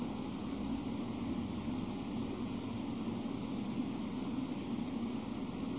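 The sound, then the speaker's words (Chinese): A steady air conditioner hum with a broad, even whoosh of airflow, like rushing water, holding constant loudness throughout with a low rumble underneath and no voices. “你一定没有听过冷气机的声音是这么好听。”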